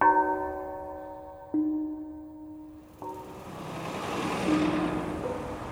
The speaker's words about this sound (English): Part of the blame, old diesel trucks and what comes out of their pipes, something called ultrafine particles.